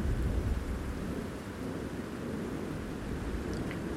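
nature, thunder rumbling

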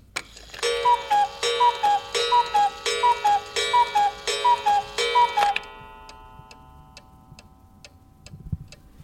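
household object, cuckoo clock ticking

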